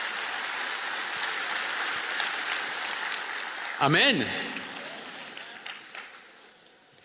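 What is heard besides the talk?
audience applauding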